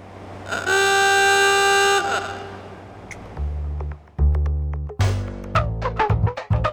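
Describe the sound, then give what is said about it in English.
An old, small black electric doorbell, a defunct relic long known to Juneau residents, reconnected by Farrell for KTOO, blares a loud, steady buzzing tone for about a second and a half, then gives way to a low hum and a scatter of sharp mechanical clicks and clacks. “Instead, he reconnected the doorbell one more time for KTOO to capture the sound that delighted and annoyed Juno residents for years.”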